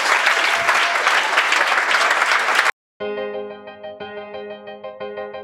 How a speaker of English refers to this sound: Let's give Jesus a clap off and a praise.